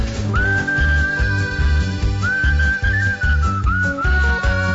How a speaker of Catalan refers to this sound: Campió mundial dues vegades, diuen, del campionat mundial de xiuladors.